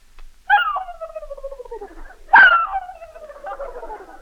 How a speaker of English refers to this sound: turkey.